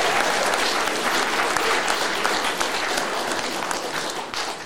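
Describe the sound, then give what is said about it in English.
A large audience at Grace Christian Fellowship applauds warmly for newlyweds, dense steady clapping for several seconds before tapering slightly toward the end. “Come on, let's applaud them.”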